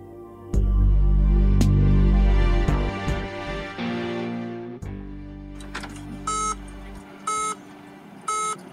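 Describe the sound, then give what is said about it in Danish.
A Citroën C5 X's warning tone beeps three times in a steady rhythm, loud, after a low engine rumble and mechanical clunks as the car starts up; it sounds at startup below 10 km/h when the boot cannot open. No one speaks. “Og så hver eneste gang, jeg startede op, så under 10 km i timen, så lyder der sådan en højlyt. Bip-tone.”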